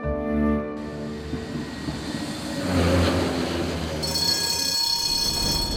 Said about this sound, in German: Mit der Straßenbahn.